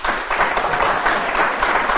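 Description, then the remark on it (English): A live audience claps together in a dense, steady burst of applause after being asked to clap if they like themes, staying fairly loud and even for about two seconds, with no one talking over it. “Do you guys like clap if you like themes for science or fiction.”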